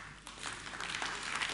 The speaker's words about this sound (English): I like this. This is the first round of applause I've got in 4 years of speaking. It's quite good.